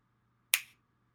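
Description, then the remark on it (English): A single crisp finger snap, sharp and bright with a quick decaying tail, standing alone over a faint low hum. The snap is given as a cue for item number one to come to mind. “Now, item number one will come to you if you don't already have it when I snap my fingers.”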